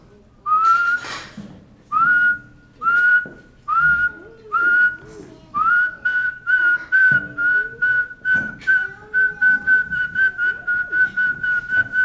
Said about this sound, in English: whistling, in and out. Usually people do it out. Same note.